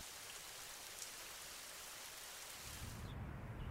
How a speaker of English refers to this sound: It began to rain.